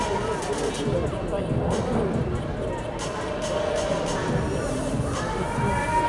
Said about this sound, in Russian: Аплодисменты, друзья!